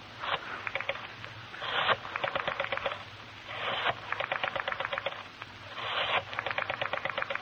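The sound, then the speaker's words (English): A telephone number being dialed on a rotary phone: four digits, each a brief whirr as the dial is turned, then a rapid run of ticking clicks as it spins back. No voices. “Your hand is steady, sure, as you dial.”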